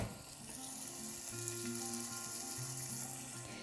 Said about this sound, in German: Jetzt, wo die Zwiebeln so leicht goldig angedünstet sind, tun wir unseren Tomatenmark hinzufügen. Und das Wasser, das wir noch haben. Und lassen das jetzt alles ein bisschen zusammen köcheln.